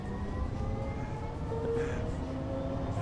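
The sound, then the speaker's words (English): Steady, continuous rumble of a moving Green Line light rail train heard from inside, with a low droning hum and faint tonal whine holding at an even loudness throughout, no voices. “We're taping a podcast about the Green Line train.”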